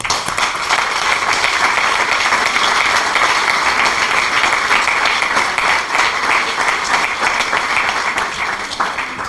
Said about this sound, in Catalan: Jo voldria començar demanant-vos un aplaudiment per tothom que va anar a participar de les eleccions, per favor.